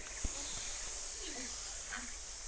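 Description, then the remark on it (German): Snakes hiss along a path in a steady, breathy rush of high noise that fills the whole stretch, with a few faint low murmurs and a soft thump near the start. “Schlangen, schnell weg hier!”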